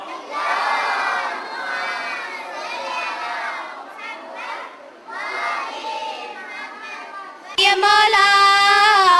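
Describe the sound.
A loud crowd cheers and shouts in sustained, rising and falling waves, with high children's voices prominent, before the roar surges sharply louder near the end. The crowd is cheering to encourage both teams at a quiz competition.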